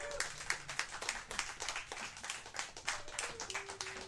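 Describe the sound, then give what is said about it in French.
An audience applauds a performer as he is introduced, a dense wash of overlapping claps with crisp, bright hand slaps rising and falling in loudness throughout, with no voices over it. “mesdames, messieurs, s'il vous plaît, on l'applaudit.”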